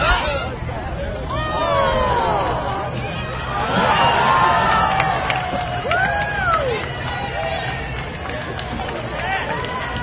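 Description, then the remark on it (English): A lively outdoor crowd at a log rolling contest during a weekend event in Petersburg fills the air with steady babble, punctuated by excited shouts and whoops rising above the chatter. “And, of course, the log roll.”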